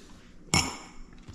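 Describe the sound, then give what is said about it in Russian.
A single bright clink of stemmed wine glasses for red wine touching, sharp at the start with a ringing tail that fades over about a second, against quiet background. “Так, под красненькое что мы, какие бокальчики нам? С ножками.”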